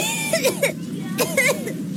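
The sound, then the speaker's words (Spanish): A child coughs in two short bursts of harsh, breathy coughs separated by a brief pause, fairly loud, with no talking. “Por más historias sin tos, Muxol pediátrico, indicado para el alivio de la tos con flema.”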